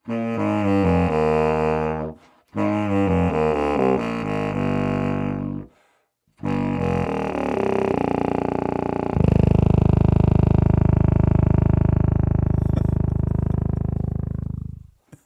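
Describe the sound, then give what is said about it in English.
A subcontrabass saxophone, the lowest and largest type of saxophone, plays very low, buzzy, rumbling notes in three phrases with brief pauses, ending on a long, loud sustained growl. No talking. “So that is the subcontrabass. That is the lowest, largest type of saxophone.”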